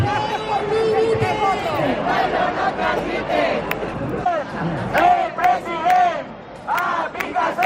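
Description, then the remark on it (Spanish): A large protest crowd carrying banners, with seven tractors opening the demonstration, shouts and chants together, a dense wall of raised voices with louder rhythmic bursts toward the end, sustained throughout. “Siete tractores abrían la manifestación, aplaudidos a su llegada por los manifestantes.”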